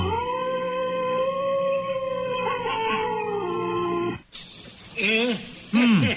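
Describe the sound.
A person imitates a wolf, holding one long, steady howl for about four seconds, then breaking into a few shorter rising and falling yelps over a noisy background.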